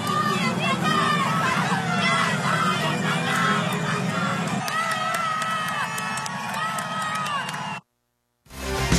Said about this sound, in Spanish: se reunieron miles, pero miles de aficionados para festejar a sus ídolos entre cánticos de campeones, campeones y soy español, español. Vamos a escuchar algo de lo que hace apenas unos instantes se estaba registrando ahí en la Fuente de Las Cibeles.